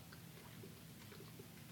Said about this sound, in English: Oh, yeah, I'm glad we're getting the chewing noises. That's a good microphone.